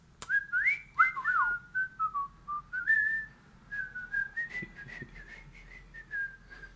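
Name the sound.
person whistling a tune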